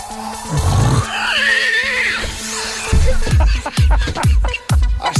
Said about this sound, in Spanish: Mira cuando escuchas el marrano.